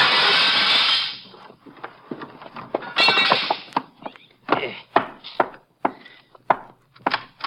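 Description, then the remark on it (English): A window pane is smashed with a gun: a loud, bright crash of breaking glass, then a run of sharp, irregular knocks and clatters as the remaining glass is knocked out. No talking. “I'll knock this one in with my gun, then I'll climb in and let you in through the door.”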